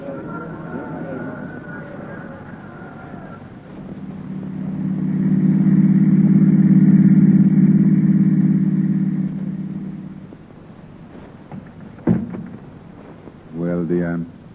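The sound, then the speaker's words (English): A car engine rumbles steadily, swelling louder as the vehicle approaches and drives past, then fades; a sharp knock and brief voices follow near the end. “Come on, let's get out of this crowd. I've got the car outside.”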